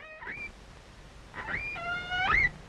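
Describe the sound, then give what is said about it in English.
Calls of a female whale recorded underwater with a hydrophone: a short rising squeal, then after a pause a longer, louder wavering cry with rich harmonics that swoops upward at its end, over a low hissing background. “Oh, they may be curiosity on the part of the whale.”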